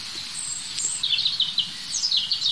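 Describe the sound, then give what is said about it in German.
A European robin sings a thin, high warbling phrase of quick descending trills and tinkling notes, clear over a soft background hiss, with no voices present. “Das heißt fast, ich kann mich nicht satt hören an diesem Gesang. Und dazu ist das einfach ein super spannender Vogel, das Rotkehlchen.”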